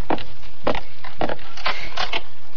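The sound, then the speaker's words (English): Several sharp knocks on a wooden door by an arriving visitor, struck in quick pairs with short pauses between them, loud and hollow-sounding, with no voices. “Well, sounds like we have company.”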